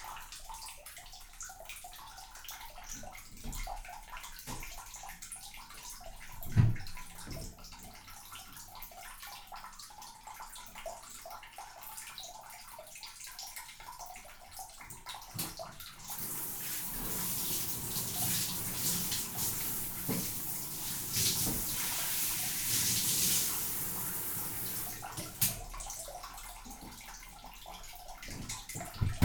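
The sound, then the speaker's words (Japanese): Bath water sloshes and splashes softly for a while, then a steady hiss of running water surges in for several seconds before cutting off, with scattered splashes and drips throughout and no talking. “まだ上がらないの？意外と長風呂なんだね。”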